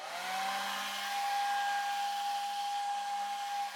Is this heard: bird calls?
no